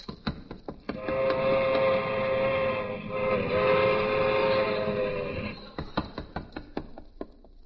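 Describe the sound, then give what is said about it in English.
A train clatters along the rails, then a loud, sustained multi-tone whistle blows for several seconds before the rhythmic clacking of the wheels returns as it passes. “Ah, little old Harry making his whistle stop.”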